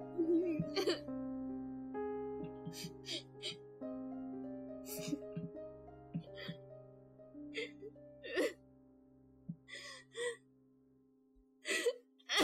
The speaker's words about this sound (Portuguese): Nenhum som corta o silêncio, exceto soluços tristes que ecoam nas ruas à distância.